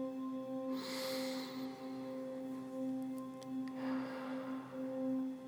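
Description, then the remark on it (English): Two slow, deep breaths during a guided relaxation exercise, a long airy inhale through the nose and then a slow, breathy exhale through the mouth, over a soft, steady droning hum. “Breathing in through your nose and out through your mouth.”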